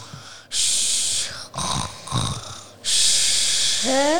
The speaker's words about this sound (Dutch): Wat hoor ik nou? Grootmoeder kan wel snurken, zeg.